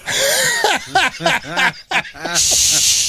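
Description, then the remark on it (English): A person imitates the spray of urine when peeing standing up, using their mouth to make a sharp, airy hiss at the start and again at the end, separated by a short burst of voiced sounds. “Is that or one of spray everywhere? What a mess, yeah.”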